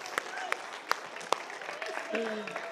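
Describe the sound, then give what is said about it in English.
A few scattered, sharp hand claps ring out at irregular intervals, fading into a low murmur of voices that grows a little louder toward the end. “Can we clap for you now?”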